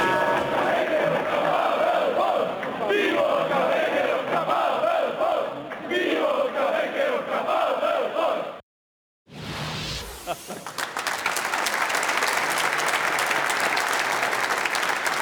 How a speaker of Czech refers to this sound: V českých luzích a hájích se před lety chytil pokřik na hosta dnešní tiki-taky. Ten zněl i v roce 2009 v Edenu při titulových oslavách Slávie.